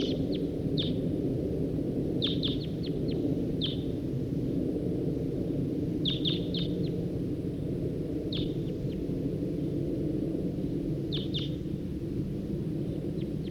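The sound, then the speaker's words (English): A wild male bird sings in short bursts of high, quick chirps, repeated every few seconds over a steady low outdoor rumble. “That male who was singing, he's perched back up there in that tree.”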